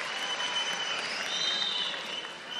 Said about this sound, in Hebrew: הרב שמעון לוי, המנכ״ל המסור, שמגיע לו הרבה הרבה הרבה מחיאות כפיים.